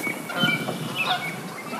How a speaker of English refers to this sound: A big woodpecker sounds, and then a flight of geese.